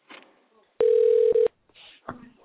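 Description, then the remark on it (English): One loud, steady electronic ringback tone of an outgoing phone call, lasting under a second, a smooth mid-pitched hum. Faint voices murmur before and after it. “I'm gonna call this guy and see if he answers the phone”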